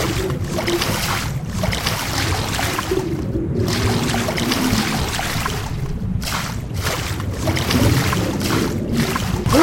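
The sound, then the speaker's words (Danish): Steady sloshing and splashing of water as a game character swims, a continuous churning wash at fairly constant loudness with brief quieter gaps, no voices. “Og når det så i vand, så skal man bruge mellemrum for at svømme.”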